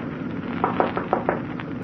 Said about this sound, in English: It was exactly 4:29 a.m. I lit a cigarette, waiting. On the horizon, far ahead, I could see the lights of London. I could feel the liner losing speed. At exactly 4:30, I knocked on the captain's door.